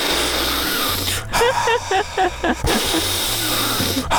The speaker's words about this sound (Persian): خب بذار من قبلش دو تا نفس عمیق بکشم.